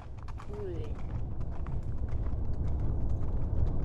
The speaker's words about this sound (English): I tumbled from Polina's back, washed with indifference as she trotted solo back toward town. I tried to call after the horse, but all that came out was a spew of golden sick.